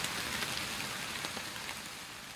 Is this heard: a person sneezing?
no